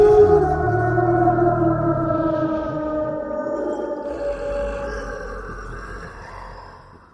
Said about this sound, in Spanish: La criatura desapareció entre las tinieblas, emitiendo un rugido aterrador que se escuchó a kilómetros de distancia.